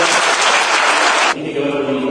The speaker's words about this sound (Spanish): así que un fuerte pero muy fuerte aplauso.